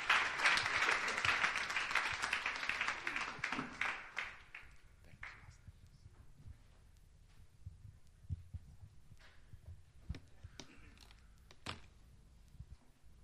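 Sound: audience applause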